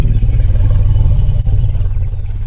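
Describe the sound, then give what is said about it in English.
An African elephant at a zoo gives its deep, throbbing rumble, a long-distance call, loud and sustained with low growling overtones, broken by one brief dip partway through. No voices. “It's that other distinctive vocalisation, the rumble.”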